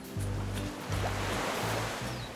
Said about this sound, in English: Today, he lives just a stone's throw from the beach, in Barbados. Outside his window, you can see the crystal water, hear the waves crash.